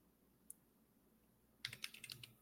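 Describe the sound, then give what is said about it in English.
A quick burst of computer keyboard typing, a rapid, irregular run of crisp key clicks after a quiet stretch with a single stray tap, with no talking. “Let's take a look at this keyboard.”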